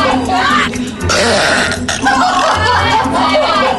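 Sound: loud deliberate burp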